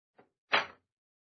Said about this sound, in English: Out this way and shut the doors behind us.